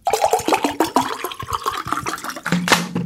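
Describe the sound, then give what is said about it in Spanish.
Non-potable water pours steadily from a tap, a continuous gushing splash with gurgling, shifting tones as it fills or drains, heard alone without any voices. “Te levantas y no puedes beber agua del grifo.”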